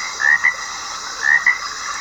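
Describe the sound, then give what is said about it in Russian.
Frogs croak in a swamp, two bright rasping calls a second apart, each a quick double pulse, over a steady chorus of chirping and buzzing. “Шум стоял на все болото.”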